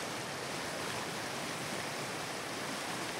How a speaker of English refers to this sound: I make my way back to the centre of town and find myself walking alongside a raging torrent of a stream rushing down to the sea. You can fish salmon out of this stream, apparently.